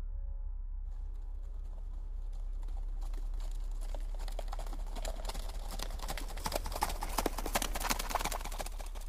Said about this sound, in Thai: ลงมาจากเนินเขาฝั่งตรงข้ามบ้านพร้อมกับเสียงฝีเท้าของสัตว์ใหญ่ที่ดังสะท้อนมาจากระยะไกลแม้เสียงยังอยู่ห่างแต่ผมกลับรู้สึกหวาดกลัวอย่างที่เด็กคนหนึ่งไม่เคยรู้สึกมาก่อน